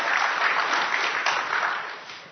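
An audience claps steadily to welcome a speaker, a dense wash of many hands at a fairly loud level that holds throughout before easing slightly at the end, with no talking over it.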